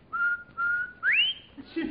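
A person whistles two short, steady notes, then a bright upward-sliding note that trails off, clear with no talking.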